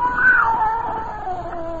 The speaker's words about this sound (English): It was a cat. The scrawny cat Clara that Mother Willis had sneaked to Fort McGuire.